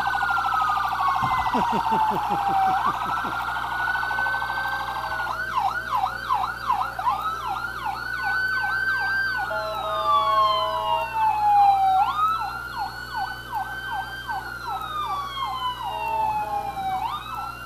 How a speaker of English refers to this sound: About all of the sirens. All of our first responders, they lead the way